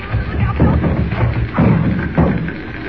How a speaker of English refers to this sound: Jimmy, look out. The door's coming in.